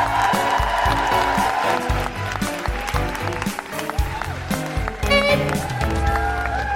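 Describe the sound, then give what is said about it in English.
A large audience at the Brighton Dome applauds and cheers steadily throughout as Zoe Lyons is introduced, the clapping dense and continuous, mixed with loud, pounding music with a strong beat. “And now keep that applause going for the one, the only, the all over the telly.”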